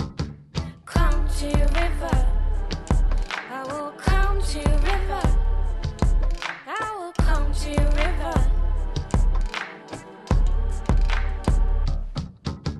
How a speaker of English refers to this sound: bouncy bass sound in the background, and the two voices, which are very similar, but have slight differences between them singing in unison.